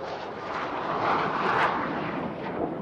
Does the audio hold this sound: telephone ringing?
no